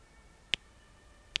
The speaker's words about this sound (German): … klickt über den Fluss.